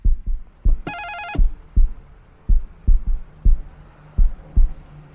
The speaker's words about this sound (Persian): هرچی به خونهشون نزدیکتر میشدم دلهورم بیشتر میشد، ضربان قلبم رو حس میکردم که تندتر شده.